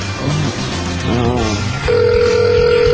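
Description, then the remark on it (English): After a moment of muffled background voices and room noise, a steady electronic ringing tone starts through a phone speaker and holds loud and unbroken to the end. “All right, is it ringing? Yeah.”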